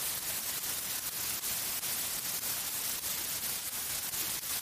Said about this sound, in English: It's a mobile phone, for sure, it's a mobile phone. The noise is in my head, not in my ears. It's to the upper right side, inside, constant, like an electrical interference. Pure hiss, mobile hiss, loud, 3 or 4 meters away, loud.